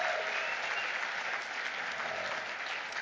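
An audience at a sold-out summit on commercial diplomacy applauds steadily, a dense wash of many hands clapping at an even level for the whole three seconds, with no voices standing out.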